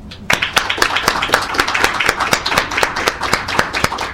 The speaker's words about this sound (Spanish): Disculpen por el tiempo, que nos pasamos, creo que como 10 minutos, pero bueno, terminamos, así es que yo creo que un aplauso.